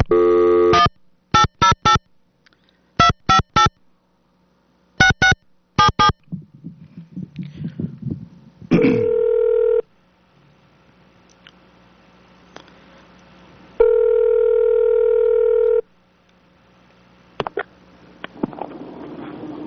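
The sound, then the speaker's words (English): Quick clusters of telephone keypad beeps give way to a phone line ringing as radio station KAPULP in Watsonville, California places a call to Hawaii, two long buzzing rings several seconds apart, clear, with no voices. “Let's place a call to Hawaii and see how they're doing.”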